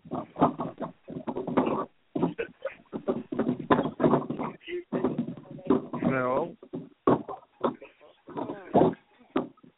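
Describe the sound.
Irregular dull thumps and knocks from cleaning out an ice maker whose ice had melted together, like something tumbling in a dryer, repeat throughout while people talk over them.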